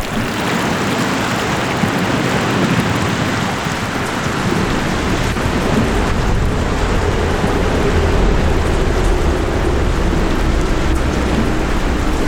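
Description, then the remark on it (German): A steady, heavy roar of floodwater rushing in after a dike broke at an allotment garden, dense and constant with a deep rumbling low end, loud with no pauses and no voices. “In dem Moment hörte ich dieses Wasser.”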